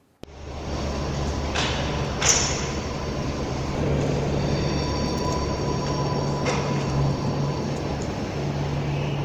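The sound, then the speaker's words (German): Quiet ambience of a train station empty of people during the coronavirus pandemic: a steady low hum and soft background rumble, broken only by a few faint clicks and knocks, with no voices anywhere. “Das ist der Bahnhof.”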